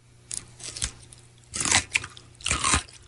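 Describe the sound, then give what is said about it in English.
A crisp crunch of someone biting into a Mount Olive pickle, followed by two more wet, crackly chomps as they chew, spaced about a second apart with no talking. “go ahead, bite that pickle”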